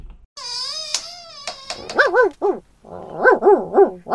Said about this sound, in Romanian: Întrerupe puțin emisiunea, pentru că pe hol e un câine. Face prea mult zgomot. Trebuie dat afară.